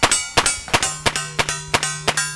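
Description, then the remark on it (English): A rapid string of about eight sharp metallic clangs: gunshots in a shooting competition ringing off steel plate targets set at various distances from the shooter. Each hit leaves a bright, sustained ring that overlaps the next in a steady, fast rhythm. “The targets are steel plates set at various distances from the shooter.”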